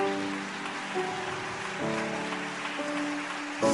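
Steady applause from a church audience, a dense crackling patter that holds throughout, with sustained chords from music changing pitch every second or so underneath.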